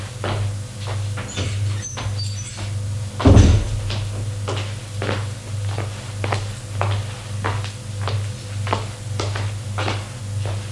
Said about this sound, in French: Il ouvre la porte de son bureau, éclaire, et là, il voit.